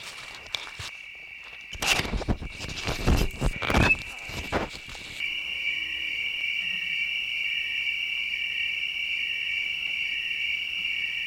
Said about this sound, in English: If you put crickets next to each other, they'll start singing in time.